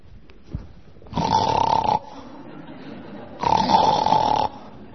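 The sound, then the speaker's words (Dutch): A voice mimics soldiers snoring on guard duty with two drawn-out, rasping breaths, each lasting about a second, separated by a short quiet pause. Loud, with no talking. “Moet je je voorstellen, al die soldaten die op wacht moeten staan. Snurken, slapen.”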